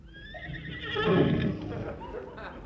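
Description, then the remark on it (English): A horse on green grass in the quiet moonlight whinnies loudly, a quavering, wavering neigh that swells in the middle and then trails off over a couple of seconds. “The poor horse likes it here.”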